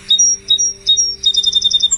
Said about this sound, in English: And I love the sparrow song. And the sparrow song is a simple song. It sounds a little bit like this. It's just kind of like